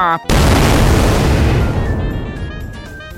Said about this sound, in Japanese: 本当に爆発させるんじゃないよ。岡本太郎の言葉使って何人の個展を爆発させてんすか。まあ、テリーの作品がコッパみじんなんですけど